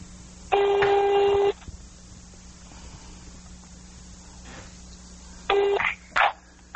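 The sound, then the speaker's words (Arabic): A landline ringback tone from a call to a landline number in Rafah purrs twice, each long buzzing ring about a second, separated by a pause, followed by a short burst of tone and faint room noise, with no talking. “أي هذا قاعد يرن بس ما أدري عاد الصوت واضح عند المشاهدين ولا لا؟ خليه قريب المايك.”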